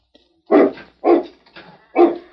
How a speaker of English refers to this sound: And the dog's jumping at him. He's licking the boy's hand.